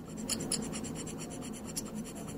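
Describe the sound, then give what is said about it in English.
A small metal dental scraper rasps across a hard tabletop in quick, repeated strokes, a steady scratchy rhythm of about five strokes a second, moderately loud with no talking. “All right, so these little scraper tools, what do they sound like?”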